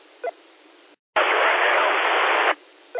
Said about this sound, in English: Get a little white noise, maybe keep your antenna straight up in the air.